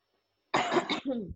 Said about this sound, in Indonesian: Wah, kok batuk?